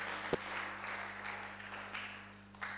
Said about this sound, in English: Come on, put your hands together. I want you to clap to God's glory.